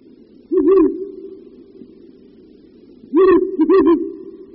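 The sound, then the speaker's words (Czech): Deep, resonant territorial hoots from a male Ural owl: one short phrase, a pause, then two more in quick succession, carrying clearly over a low steady background hum with no talking. “Toto hluboké houkání nepatří víru velkému, jak by se možná mohlo na první poslech zdát, nýbrž jedné z našich nejvzácnějších sov, puštíku bělavému.”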